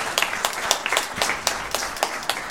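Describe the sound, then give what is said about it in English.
A crowd of people clapping their hands in a steady, irregular burst of sharp claps, moderately loud, with no talking over it: a church audience giving a hand clap of praise. “Give Zion a hand clap of praise.”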